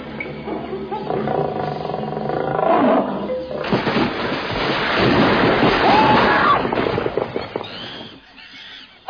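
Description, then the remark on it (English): A loud tiger roar rumbles and growls for several seconds in a rough, sustained burst, then drops away abruptly into near quiet. “We were just, Why are you dressed as a tiger?”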